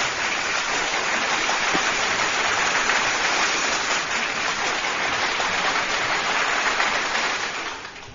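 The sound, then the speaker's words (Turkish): Sustained, dense clapping from a crowd, a steady crackling wash of applause that holds evenly for several seconds before tapering off at the end. No one speaks over it. “Kocaman bir alkış İbrahim Hocam.”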